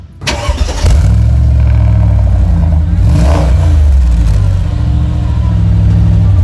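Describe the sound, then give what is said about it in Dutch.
A car engine cranks and catches in a showroom, then settles into a loud, deep rumble with a couple of revs rising and falling, sustained. “Weet jij welke auto er zojuist is gestart hier in de showroom?”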